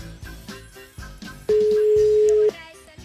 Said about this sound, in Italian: Quando squilla il telefono, secondo me, stanno tutti sull'attenti adesso.